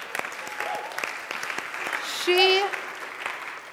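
An audience claps steadily, a dense patter of many hands at moderate volume, with a brief high whoop or cheer rising over the applause partway through.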